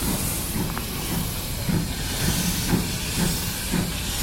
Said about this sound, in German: Draußen vor dem Restaurant und direkt am Fluss setzt sich gerade die alte Dampfeisenbahn in Bewegung. Einmal im Halbrund um die Bucht von Saint-Valery nach Le Crotoy. Die grün-rote Lok ist auf den Namen Béton Basoche getauft, Seriennummer 3714.